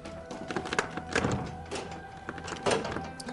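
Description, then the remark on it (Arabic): Repeated dull thuds and rattles of a door being pushed and jiggled against its newly changed lock, which will not open, several knocks in uneven bursts with a faint steady hum underneath. “ايه ليش ما عم يفتح؟ انا غيرت القفل.”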